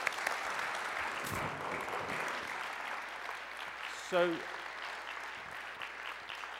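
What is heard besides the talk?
audience applause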